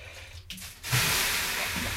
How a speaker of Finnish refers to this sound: No heitäs vettä kiukaalle.